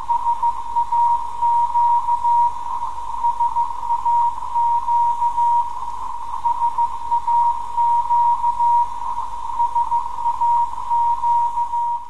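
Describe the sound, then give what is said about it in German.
Morse code from a longwave radio transmitter: a steady, mid-pitched tone keyed on and off in short dots and longer dashes, continuing throughout over a constant bed of radio hiss and static. “Dezember, die Sendeanlage in Betrieb genommen und auf der Längstwellenfrequenz 17,2 kHz der traditionelle Weihnachtsgruß im Morsecode übermittelt.”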